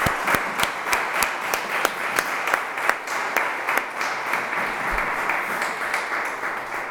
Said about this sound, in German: Also ich denke, es ist einfach mal ein Applaus wert.